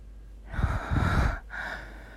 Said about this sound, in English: I know all that you can hear, my soft panting and the creaking of my bed strings.